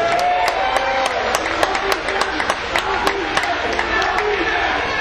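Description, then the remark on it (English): A crowd of Ohio Valley Wrestling fans claps and cheers steadily at a wrestling show, dense overlapping applause with sharp individual claps standing out, mixed with scattered shouts and a murmur of voices. “So give yourselves a big round of applause.”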